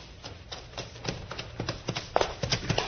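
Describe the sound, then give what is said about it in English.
Rhythmic horse hooves clip-clop at a steady trot, starting soft and growing louder as the horse is started and sets off down a trail, with no voices. “Start that horse, Little Beaver.”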